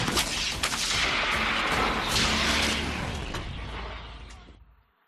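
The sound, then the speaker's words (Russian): Dense, continuous gunfire and booming artillery on a front line, with sharp cracks layered over a deep low rumble; the din stays loud throughout before fading out at the end. No one speaks. “И постоянно не смолкает грохот орудий.”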